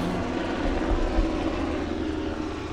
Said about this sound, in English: We heard from the helicopter. Here comes the helicopter. We'll do the Coronado pause. There we go.